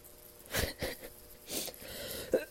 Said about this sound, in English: Oh, God, cough.